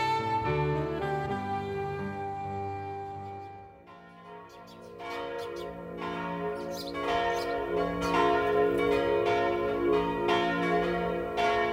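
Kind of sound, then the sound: signal or alarm, church bells ringing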